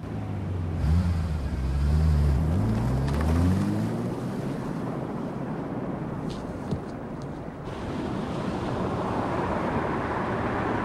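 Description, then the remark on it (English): A car reverses in a car park, its engine humming low and revving, the pitch rising and falling for a few seconds before settling into a steady rumble of broad, wind-like noise. No one speaks. “The car reverses.”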